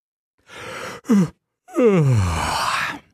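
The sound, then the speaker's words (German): A person yawns: a breathy inhale, a short voiced catch, then a long drawn-out yawn that slides downward in pitch and fades with a breathy sigh. Fairly loud, with no talking. “Na, musstet ihr vielleicht auch gerade gähnen? Gähnen ist nämlich ansteckend.”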